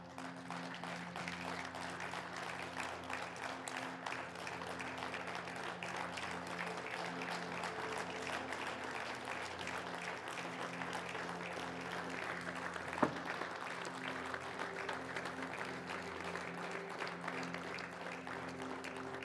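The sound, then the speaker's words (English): An audience applauds steadily for about twenty seconds, a dense, even wash of many hands clapping with no voices breaking through, the level holding constant throughout. “I was going to tell you in the sermon that they clap for the band all the time, but they never clap for a sermon.”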